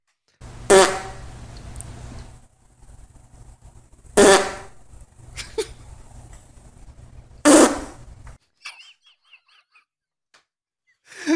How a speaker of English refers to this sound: Hey, fart or not? I'm gonna say that is not a human fart. That is correct. Yes. Yeah. What, do we know what it is? It's a dog. It's a dog. Dog farts sound like that? Really aggressive.